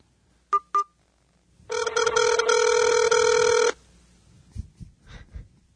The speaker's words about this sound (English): All right, and here's the phone. We're dialing. Fingers crossed.